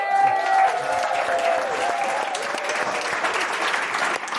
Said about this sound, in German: Dankeschön. Ein Applaus für die Schule.